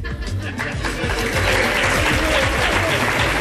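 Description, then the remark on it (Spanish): A crowd bursts into sustained applause, dense and loud throughout, with scattered laughter and chatter mixed into the clapping, in response to comments by foreign minister Borrell. “I potser més enllà dels comentaris de Borrell, el que va fer més mal al sobiranisme en aquest moment eren els aplaudiments i els riures, també quan va parlar de Junqueras, que ja era a la presó.”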